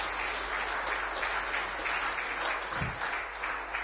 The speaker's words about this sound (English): Okay, then okay. Applause for you. Thanks a lot. Thank you.